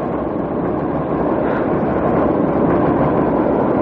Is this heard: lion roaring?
no